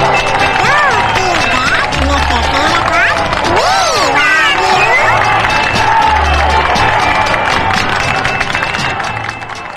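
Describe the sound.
A crowd applauds and cheers loudly and continuously, with sustained clapping under whoops and excited voices that rise and fall throughout, fading slightly at the very end.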